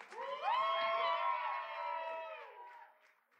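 An audience cheers loudly, with rising whoops and sustained shouting voices blending together for about three seconds before gradually fading out.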